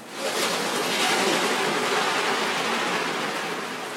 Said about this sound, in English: And not only did I get the rain, but you got the occasional car driving past. I hadn't realised at the time, but it sounds a lot like a kind of wash of white noise that you'd artificially create with a synth normally.